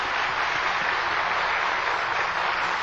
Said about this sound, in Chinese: 现在请各位来宾以最热烈的掌声恭请上清下海大师为我们开示。